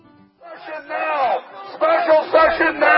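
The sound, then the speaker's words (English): A big crowd outside the state capitol in Atlanta chants in loud, rhythmic bursts, voices amplified through a bullhorn that gives them a thin, tinny edge, repeating the shouted phrase "Special session now!" over a few seconds. “He's outside now with a big crowd bullhorning.”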